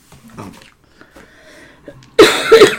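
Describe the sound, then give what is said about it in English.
Faint background murmur, then a sudden, loud sneeze or cough bursts out near the end, harsh and breathy with a voiced edge. “Cough in your elbow.”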